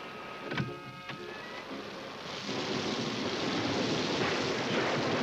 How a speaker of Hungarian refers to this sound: Tehát itt kell maradni a kocsiban, amíg eláll az eső.